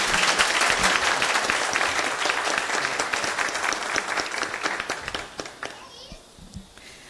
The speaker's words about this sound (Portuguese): Parabéns para vocês, tá? Que Deus os abençoe e sejam bem-vindos, tá bom? Uma salva de palmas para eles mais uma vez.